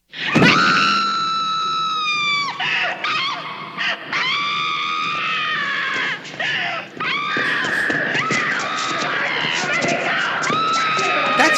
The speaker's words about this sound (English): So they stake her as she screams bloody murder.